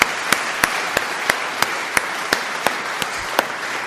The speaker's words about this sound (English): So I think we should give him a very big clap.